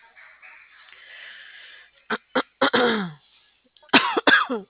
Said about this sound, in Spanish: Ya estoy con la tos yo también.